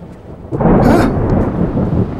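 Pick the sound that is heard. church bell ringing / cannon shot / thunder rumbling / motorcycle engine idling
thunder rumbling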